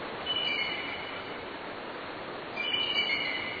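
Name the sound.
bald eagle call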